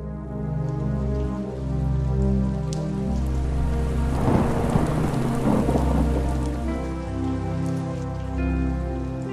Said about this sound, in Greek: Ένας εκοφαντικός κρότος μέσα από τα πυκνά κατάμαυρα σύννεφα που σκέπαζαν τη μικρή στερεολαδίτικη πόλη τράβηξε την προσοχή της φαινομενικά εύθυμης συντροφιάς των τεσσάρων μεσήλικων φίλων